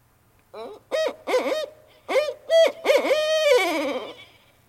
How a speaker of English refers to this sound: For contrast, here's another common big owl that you can find anywhere across Wisconsin. It's called a barred owl.